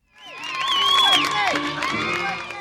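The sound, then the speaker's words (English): A crowd of about 1,800 spectators cheers at an elite women's field hockey match in the United States, many voices overlapping in loud, high-pitched shouts and whoops that swell quickly and stay strong throughout. “1,800 spectators isn't a big crowd for, say, a professional football game or even a college volleyball championship.”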